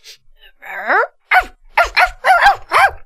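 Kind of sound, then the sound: animal, puppy barking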